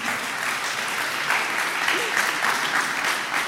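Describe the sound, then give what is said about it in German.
An audience applauds steadily for the VOG, a dense wash of many hands clapping at a constant level throughout, with a few whoops and a faint voice mixed into the crowd noise. “Ein Applaus für das VOG, die sind auch gekommen.”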